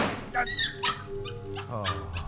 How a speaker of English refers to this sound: A dog. Only a dog. Yes, it's only a dog.